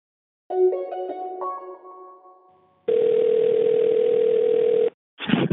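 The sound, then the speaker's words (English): A telephone dial tone, heard on picking up the phone, hums steadily and loudly for about two seconds after a short sequence of electronic tones, then cuts off before a brief burst of noise. “Why does it sound like that when you pick up the phone?”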